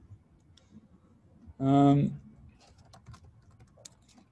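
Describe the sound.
Soft, irregular computer keyboard typing clicks patter along throughout, quiet, as someone types TensorFlow code, interrupted midway by a brief, louder hummed voice sound lasting about half a second.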